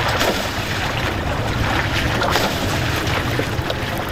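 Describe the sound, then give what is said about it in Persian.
Steady rushing water of the Harirud river in Firozkoh, Ghor province, Afghanistan, where a 13-year-old boy washes cars in the cold, fills the scene with a constant broad wash, fairly loud, mixed with gusty wind buffeting the microphone. No one speaks. “پسر 13 ساله‌ای که دستان کوچکش از شدت سرما سرخ شده در کنار دریای هریرود در فیروزکوه مشغول شستن موترها است.”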